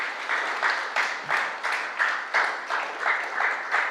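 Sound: short applause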